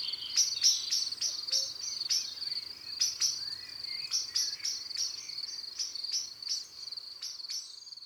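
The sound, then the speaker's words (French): Sharp, repeated clicking bird calls, the alarm notes a common blackbird gives when frightened, come in quick irregular bursts over a steady high insect-like buzz, with no voices. “À la moindre frayeur, le merle noir lance de grands cris d'alarme, suivis de longues séries de « pit, pit, pit ».”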